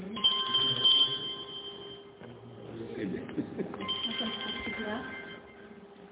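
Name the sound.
telephone ringing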